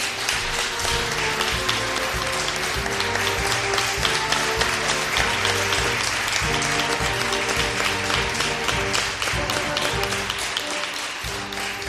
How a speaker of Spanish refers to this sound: Gracias a todos ustedes, que ahora pueden aplaudir, por favor.